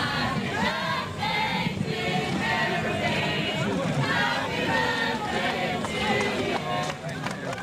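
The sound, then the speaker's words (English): A crowd on the campaign trail in Doncaster cheering and calling out together for Jeremy Corbyn's birthday, a steady, loud wash of many overlapping voices that keeps going for the whole stretch with small swells and dips. “There was time for a little cheer among the trials and tribulations of the campaign trail in Doncaster.”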